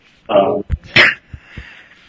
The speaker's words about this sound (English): Sorry, coughing.